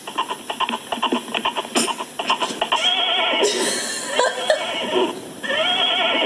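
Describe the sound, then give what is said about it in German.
The speaker's horse whinnies loudly as it is pinched on the ear, heard over a telephone receiver held to it, starting with a series of short, pulsing snorts that build into a long, wavering, high-pitched neigh. No one speaks. “Ich kann Ihnen mal kurz vorspielen, wie meins macht, wenn man ihn am Ohr kneift.”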